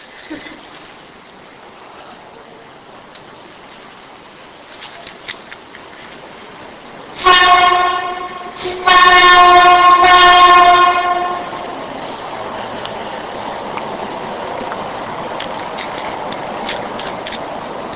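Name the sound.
train passing with horn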